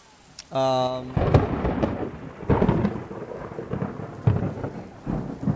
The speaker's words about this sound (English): Wow, we're in a thunderstorm. In Burma, do you have thunderstorms like this?